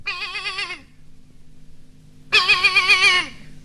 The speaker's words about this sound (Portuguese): E o cabrito foi chegando e foi berrando.